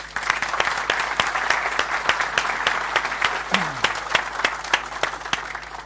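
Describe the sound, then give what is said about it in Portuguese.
A crowd breaks into sustained applause for the companies and volunteers who ran the sessions, a dense steady patter of many hands clapping, with a few sharper individual claps standing out throughout. “Não vamos, eles, lá fora está um slide a mostrar quem são, mas gostava só de pedir uma salva de palmas para eles todos, ok?”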